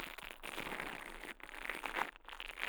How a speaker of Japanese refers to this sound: ブラシ型の耳かきで、耳をマッサージしていきます。お耳の中で毛がパチパチと当たってくすぐったいですよね。